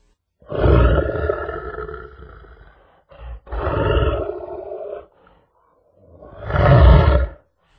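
A lion roars three times in a row, loud, each deep rumbling roar lasting a second or two with short pauses between them and no one talking.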